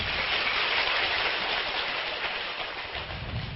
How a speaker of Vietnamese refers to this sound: Và sau đây tất cả các Phật tử chúng con xin một lần nữa tri ân thầy bằng một tràng vỗ tay nữa.